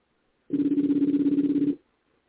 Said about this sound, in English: I don't know if y'all can hear the phone ringing, but okay.